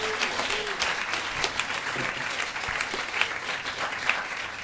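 Steady audience applause fills the room, dense clapping from many hands at a moderate level, continuing evenly for several seconds with no voices over it.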